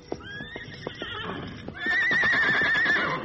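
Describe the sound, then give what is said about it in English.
Scout, a horse shut in the wagon shed behind Jason Fletcher's general store, whinnies twice, first a quavering high neigh, then a louder, longer vibrating whinny that trails off, with soft hoof clops and shuffling beneath. “As he entered the alley, he heard Scout's familiar whinny.”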